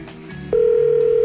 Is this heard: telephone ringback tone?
yes